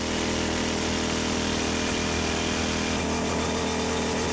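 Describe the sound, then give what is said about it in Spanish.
A large rock drill (a barrena) with a long steel bit grinds steadily into a stone wall, boring very long holes; its loud, continuous mechanical roar is dense and harsh, with a droning engine hum and no voices. “Escucha, que te pongo un poco el sonido que hacía la barrena, que es como se llama a esa taladradora enorme.”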